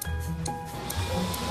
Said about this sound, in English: Harry and Tony imitate the sound of planes with a hairdryer.